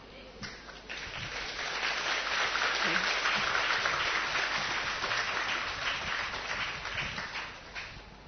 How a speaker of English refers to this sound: Once more, clap for her.